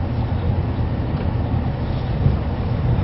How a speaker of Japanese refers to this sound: ただいまご乗車いただいている特急懐かし台帳号は編成の両側先頭車と最後尾1号車と11号